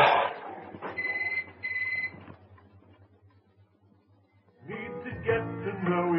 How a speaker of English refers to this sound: It's all right. Go and answer the phone. Dinner can wait a minute or two.